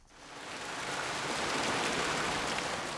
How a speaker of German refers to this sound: Das warme Wasser sprudelt nur so ins Becken. Manche der Badenden schwimmen, andere stehen. Die Thermalbäder sind das Wahrzeichen von Langadas.